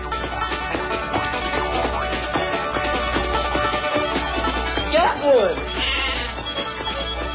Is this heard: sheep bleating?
yes